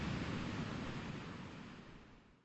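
Heavy surf roars against the reef of a lone coral island after a tropical thunderstorm, in a dense, continuous wash of noise, loud at first and slowly ebbing away over a few seconds, with no voices.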